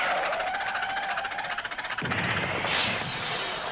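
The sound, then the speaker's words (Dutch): A toy train clatters along in a quick, steady rhythm, then abruptly crashes off its rails with a harsh jolt, a brief shrill screech, and a continuing loud rattling rumble. “Oh, u bent uit de rails gevlogen.”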